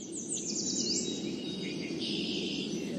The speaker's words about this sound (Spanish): Con pajaritos.